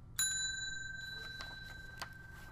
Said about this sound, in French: Voici un oiseau cloche à tête blanche. Cet oiseau habite en Amérique du Sud. Son cri ressemble à des cloches qui sonnent. Il y a de longs morceaux pointus qui poussent du bec de l'oiseau mâle.